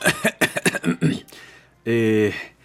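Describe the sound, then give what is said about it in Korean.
A man speaks briefly, then gives a single deliberate, voiced throat-clearing 'ahem', fairly loud, as if performing the sound rather than coughing naturally. “소양공이 참다 못해 헛기침을 한번 하고서 거만스레 말한다.”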